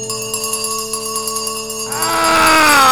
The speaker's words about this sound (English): Every bell in the house must be ringing.